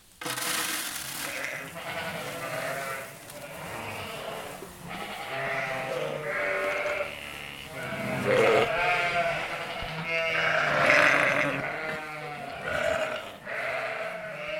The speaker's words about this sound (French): J'ai 350 brebis de race Île-de-France et Texel. Et donc il y a une partie là qui est rentrée aujourd'hui pour faire des agneaux d'ici pas longtemps, d'ici une semaine même pas.